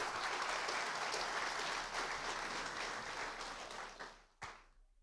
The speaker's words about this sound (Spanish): Y si tú estás dispuesto, pues dale un aplauso al Señor. ¡Venga!